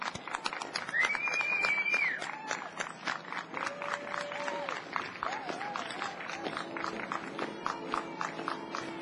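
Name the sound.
crowd applause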